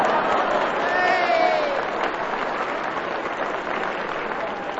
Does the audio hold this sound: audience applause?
yes